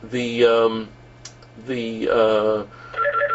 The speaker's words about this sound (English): You gotta let the phone go. It'll ring.